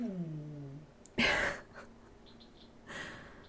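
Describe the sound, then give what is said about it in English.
A male dog, pouting in a room, lets out a descending whine that fades, then gives two heavy, breathy sighs with a quiet pause between them, fairly soft. “So he's in here pouting and sighing and he won't go in any other room because he just wants to be dramatic.”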